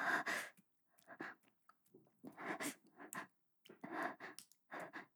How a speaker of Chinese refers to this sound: 什么什么喘息声？你听错了吧？是因为今天外面有点冷。